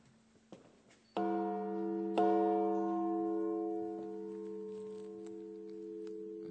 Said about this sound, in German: Diese Glocke läutet und ruft mittags zum Gebet und zum Frieden.